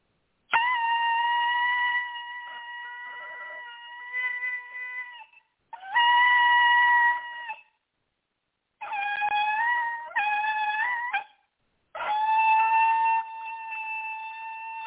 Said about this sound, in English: So I'm actually going to blow a different shofar. It's got a different sound. It's got a different frequency. It's got a different relevancy. And so anyway, this one I don't blow so well, but God's going to use it.